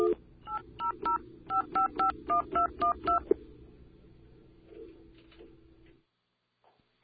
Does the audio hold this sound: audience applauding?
no